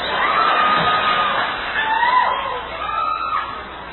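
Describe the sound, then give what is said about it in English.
A crowd cheers and whoops loudly across the whole stretch, with overlapping high-pitched shouts from the audience and a dense wash of noise that includes clapping. “I'm like, all I hear is clapping.”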